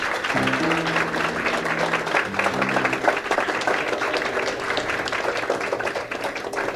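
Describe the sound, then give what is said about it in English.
An audience applauds a jazz guitarist as he is introduced, with dense, steady clapping that carries on for the whole stretch, while a few low sustained musical tones ring underneath at the start. “This I consider a great pleasure to be able to present this gentleman who I think is one of our great guitarists, and I think we ought to give him a great big round of applause.”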